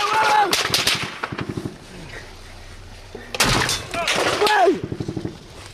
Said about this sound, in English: the round started coming in, and it was absolutely relentless. So we started shouting that we were press, etc., but in a stop in the fighting. And then the shooting then increased. In fact, it definitely increased. You can hear it in the tape.